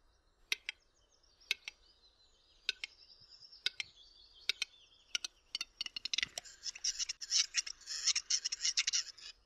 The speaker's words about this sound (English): The capercaillie's courtship song is composed of four phases. Tapping, drum roll, cork pop, gurgling and wheezing.